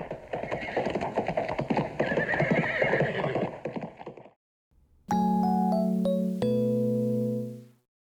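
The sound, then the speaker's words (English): Rapid hooves of two horses galloping off clip-clop loudly for about four seconds, with a horse whinnying amid the clatter, then a brief pause before ringing, sustained musical chimes take over. “The two robbers jumped on their horses and galloped off to find the village.”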